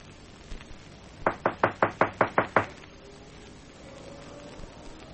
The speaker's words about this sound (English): Nobody, huh? Knock again. Louder. Just to make sure.